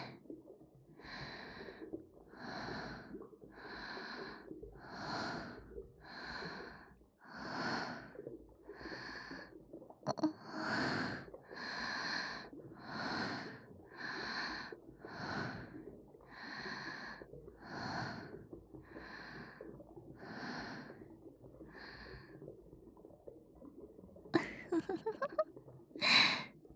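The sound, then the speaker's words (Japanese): Heavy, rapid breathing, with about twenty loud, rasping breaths in a steady rhythm and no talking, ending in a few sharper, ragged gasps. “息遣いが荒くなってるわ。”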